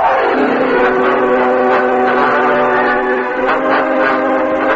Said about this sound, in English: I'll go ring the farm bell to waken the hands.